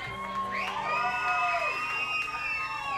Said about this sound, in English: We wanted some cheap applause. That's the best way to get us that good old-fashioned encore.